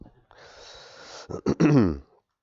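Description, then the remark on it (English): A nose is blown in one long, breathy, rushing blast lasting about a second, followed by a few short voiced snorts and a throaty, rising sound. “What was I saying before I had to blow my nose?”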